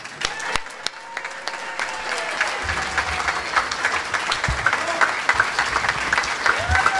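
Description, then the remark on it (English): A large audience, asked to stand, applauds steadily for Corey Rowe, an Iraq and Afghanistan war veteran and film producer and director. Dense overlapping claps form a loud, sustained roar, with a few cheers and whoops rising through the clapping. “Everybody, please stand up and give a huge round of applause to Corey Rowe.”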